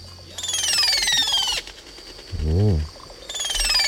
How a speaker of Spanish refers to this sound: Y el último pájaro que traigo es la oropéndola crestada.